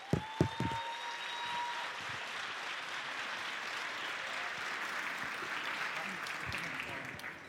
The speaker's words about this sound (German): Und riesigen Applaus bitte. Applaus, Applaus, Applaus.